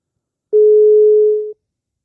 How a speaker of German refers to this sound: Geht keiner dran. Es geht keiner ans Telefon.